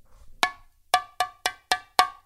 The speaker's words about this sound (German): Und es klopfte auch nochmal an der Tür.